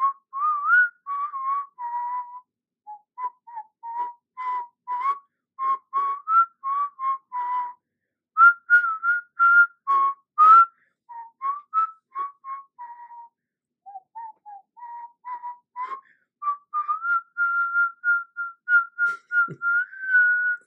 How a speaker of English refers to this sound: So what I'm going to do is I'm going to whistle and see if you can guess that tune.